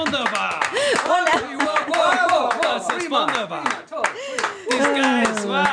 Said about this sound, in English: You actually have to clap your own hands so that it sounds like there is this whole audience thing. Like, wow, done well, man.